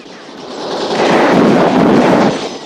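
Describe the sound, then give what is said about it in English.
A dense, continuous barrage of gunfire at a house, a roaring wash of rapid overlapping shots that swells louder after the first second and holds steady before easing slightly at the end. No voices. “The roof of the house groans and subsides under the ferocity of the barrage.”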